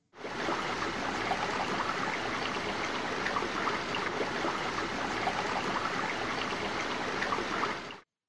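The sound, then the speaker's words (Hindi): Steady murmuring of the water of the Ganges river at the Triveni Sangam in Prayagraj, flowing and babbling without pause, a broad even wash of gurgles and trickles with no voices present. “वहां गंगा नदी का विशाल पात्र, शांत और पवित्र वातावरण, नदी के जल का कल कल निनाद, इन सब के कारण हमारा मन मंत्रमुग्ध हो गया है ऐसे हमें अनुभव हो रहा है।”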